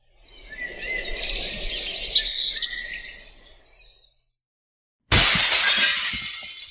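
In a radio advertisement, cheap economy window glass of a house on Calle Corrientes shatters with a bright, tinkling spray of breaking shards that scatter and fade. After a brief silence a second loud crash of window glass bursts in, no voices.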